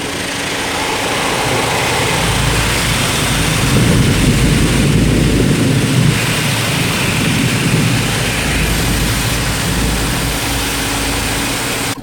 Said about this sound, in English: I wish you were in the car wash with me.